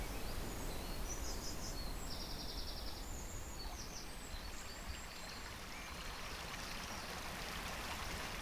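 nature, river water flowing

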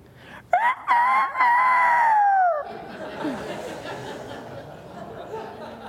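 bird, rooster crowing

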